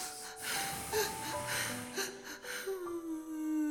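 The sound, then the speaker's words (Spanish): Soft whimpering and crying, with breathy gasps and thin, wavering whines that rise and fall over a few seconds, fairly quiet, with no talking. “Ay, llorando,”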